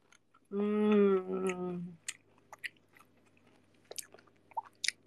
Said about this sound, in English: Chew louder, anjir. Lu mau gua mengunyah seperti apa? How do you want me to chew? I'm already like moving the mic closer to me.